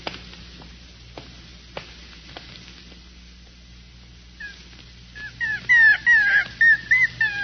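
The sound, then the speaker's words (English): A puppy whimpers in a series of high, wavering cries and short yips, starting faintly after a few soft clicks and growing louder and more insistent near the end. “You're licking my face. Poor little pup.”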